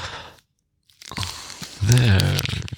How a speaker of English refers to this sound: And let me force feed you. Come on, here, take a bite. Come on, that's it. There, that's it. Now chew it. Chew for Daddy.